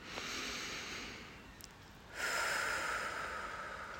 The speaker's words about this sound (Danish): Tag nu dybe indåndinger gennem næsen og pust langsomt ud gennem munden.